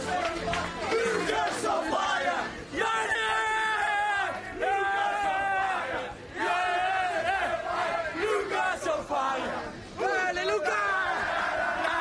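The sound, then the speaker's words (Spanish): Tottenham players in the locker room after their match against Ajax shout and chant together loudly, with several sustained, ringing bursts of yelling separated by brief dips, continuing for the whole stretch. “Y en el vestuario, un grito.”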